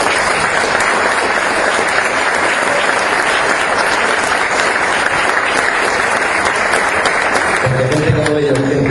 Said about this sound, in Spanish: Para ellos dos, en especial, que nos acompañan, yo les pido a ustedes un aplauso.